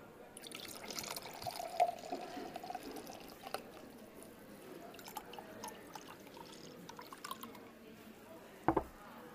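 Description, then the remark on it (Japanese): Champagne pours steadily into a glass with a soft, fizzing trickle and light drips throughout, fairly quiet, ending with a brief sharp clink. “シャンパン入れてくれてありがとう。”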